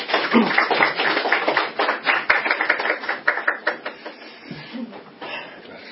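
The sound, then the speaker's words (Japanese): An audience applauds warmly to encourage and welcome a nervous speaker, a Christian newspaper reporter, dense overlapping claps swelling steadily and then thinning into scattered claps before fading out near the end. “ご本人緊張しておりますので、ちょっと皆さん励ましの拍手で歓迎してください。”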